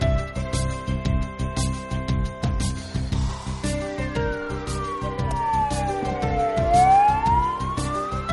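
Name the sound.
emergency vehicle sirens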